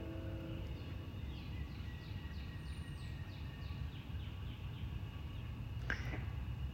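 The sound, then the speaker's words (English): Birds and frogs call together outdoors, a steady run of short repeated chirps over a dense low background chorus, with one sharper, brighter call near the end. No one speaks. “The communications, the birds and the frogs.”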